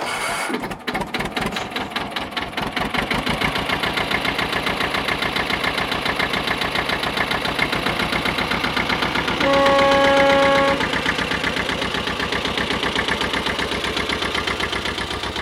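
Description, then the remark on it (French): A hydraulic shovel mounted on a GMC truck carrier has its engine crank and sputter to life, then settle into a loud, steady, rapidly pulsing idle, with a brief tonal whine rising over it near the end. “Maintenant, on va entendre le démarrage de l'hydropelle sur porteur GMC TU. On va entendre le son de ce moteur.”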